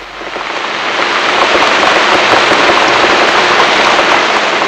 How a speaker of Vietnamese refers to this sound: Rồi bỗng nhiên, mưa xối xả như trút nước, tiếng gió giật từng cơn, gào thét trong màn mưa trắng xóa trên cánh đồng cỏ.